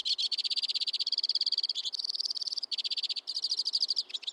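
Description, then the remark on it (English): Crossbills calling among snowy conifers in winter, in rapid, high-pitched trills and chips, a steady stream of buzzy pulses broken into a few short bursts, with no voices. “So even in the grips of winter, when most songbirds are months away from the breeding season, somewhere among the snowy conifers, crossbills are already warming up.”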